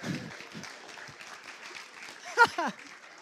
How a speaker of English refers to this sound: Don't clap, it's rubbish.